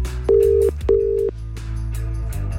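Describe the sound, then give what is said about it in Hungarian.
A phone call being placed by a radio request-show host to pass on a listener's message: two short electronic tones, then a steady low line tone with faint clicks as the call rings out. No one speaks. “Reméljük, hogy felveszi a telefont.”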